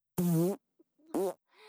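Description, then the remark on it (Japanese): Two loud farts released into a box: a longer buzzing one, then a shorter rising squeak after a brief pause, followed by a faint trailing sputter at the end. “私がおならをするたび、箱の中はおならの濃度が上がる。”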